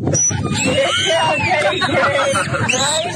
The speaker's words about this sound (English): That dolphin is angry. That dolphin's about to murder.